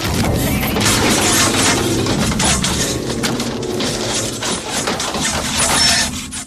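A knife, wielded by Chucky, slashes repeatedly through a car seat backrest: harsh, ripping strokes in an irregular rhythm, loud over a steady low rumbling drone, with no voices.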